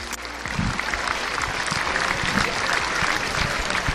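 Steady applause from a crowd, ending five minutes of morning silence at the town hall steps with institutional representatives and hundreds of schoolchildren from Colegio Padre Claret; many hands clap in a dense, even patter that holds at a constant loudness for several seconds without voices standing out.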